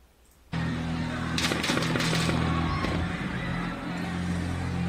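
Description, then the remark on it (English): A boom forklift holding up an audio rack, or speaker rack, gives off a loud, steady hiss that starts abruptly and runs over a low humming drone, with a cluster of sharp cracking bursts partway through. “That hissing sound is a boom forklift that is holding up what is called an audio rack or a speaker rack.”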